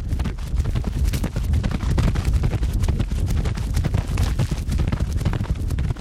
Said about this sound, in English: We wanted to control the speed of the horse, so we had the trainer run the horse in a circle with a rope.